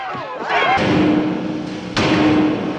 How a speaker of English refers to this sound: The two men in suits see, and one of them charges on stage right into the drum kit.